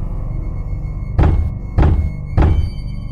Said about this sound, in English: I know this banging. It's a hard fist hitting the harder drywall.